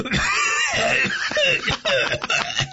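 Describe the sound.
A storyteller acts out the old general Huang Zhong coughing in anger: strained, raspy vocal sounds followed by a run of short, sharp coughs in quick succession, loud and breathy.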